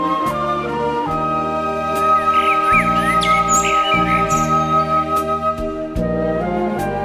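Warbling blackbird song rises and falls in short bright phrases, layered over steady, sustained chords from a symphony orchestra recording that shift every second or so. No one speaks.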